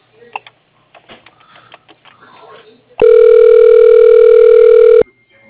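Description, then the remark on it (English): A few soft clicks and faint handling noises as a disconnected call is redialed, then a loud, steady telephone dial tone hums for about two seconds before cutting off abruptly. “I think I got disconnected. Okay, let me try again for you.”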